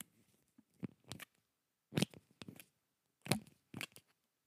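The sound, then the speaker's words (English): A pen is opened and closed over and over, giving sharp, crisp clicks in loose pairs spaced by short pauses. No one speaks. “Just opening and closing a pen.”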